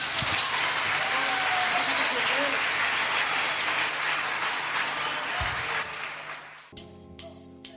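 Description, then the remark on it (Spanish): A crowd applauds loudly and steadily for a band performing live at its official presentation, a dense wash of clapping that runs for nearly seven seconds before cutting off abruptly as steady tones and sharp hits begin. “Así que ojalá se lleven un grato recuerdo, eso depende de ustedes y de sus aplausos.”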